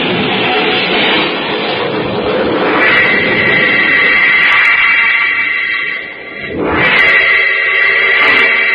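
A car with a flat tire and failing brakes skids in the rain toward a cliff, with a loud, sustained tire screech over a roaring engine rumble. The sound dips briefly, then swoops back up into another squealing slide, with no voices.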